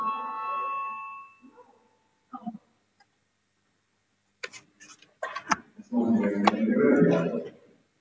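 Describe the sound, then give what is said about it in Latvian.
A voting bell in a parliament chamber rings as a steady electronic tone for about a second before a vote on a deputy's proposal, then fades into hush; after a pause, brief voices and a burst of murmuring, rustling chamber noise follow. “zvanu balsosim par 12. deputātu Stepiņenko priekšlikumu”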